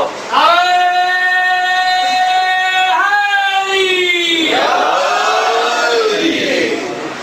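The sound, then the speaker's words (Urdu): A crowd shouts the religious slogan Nara-e-Haidari in loud unison, long drawn-out voiced cries that rise and shift in pitch, then break into a rougher, noisier roar before fading at the end. “اب نعرہ حیدری تھا، اب نعرہ حیدری تھا.”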